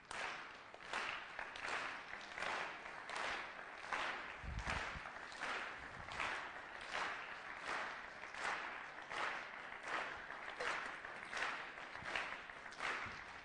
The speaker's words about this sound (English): Do you think without me starting, you can start the clapping again? Someone on this side, start your... All right, this side.